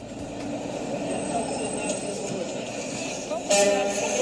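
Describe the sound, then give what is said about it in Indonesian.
Dense, steady, chaotic street traffic in central Manhattan, New York, rumbles throughout, a continuous wash of engines and road noise with a brighter burst near the end, while voices murmur faintly in the background. “Pendengar, inilah suasana kekacauan lalu lintas di pusat kota Manhattan.”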